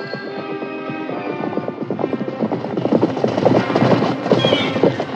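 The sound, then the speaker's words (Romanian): Hooves of a ridden horse on a road clip-clop in a steady, fairly loud rhythm that builds in intensity, with a possible whinny mixed into the busy trotting sounds. “Și ieși Țugulea călare în drumul smeului cel mare, care venea și el tot călare.”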